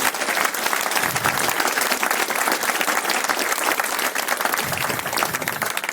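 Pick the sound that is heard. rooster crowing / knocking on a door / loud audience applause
loud audience applause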